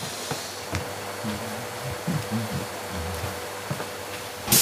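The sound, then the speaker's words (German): A vacuum cleaner that is breaking down: its motor whirs steadily but sputters, with irregular knocks and wavering low tones throughout, then ends in a sudden loud, harsh burst of noise. “Der Staubsauger scheint seine volle Funktionstüchtigkeit gerade aufzugeben. Zumindest klingt es so.”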